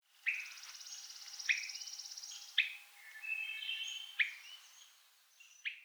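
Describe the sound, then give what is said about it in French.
A Swainson's thrush contact call: five short, sharp, mid-high 'whit' notes at irregular intervals, standing out over softer continuous birdsong and trills in the background. “j'ai pris, par exemple, la grive à dos olive pour illustrer ces quatre types de cris-là.”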